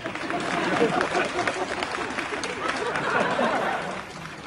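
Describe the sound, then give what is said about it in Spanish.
An audience claps steadily for several seconds in applause for a workshop, a dense, crackling wash of many hands at an even loudness, with a murmur of voices mixed in. “¡Aplauso para este taller!”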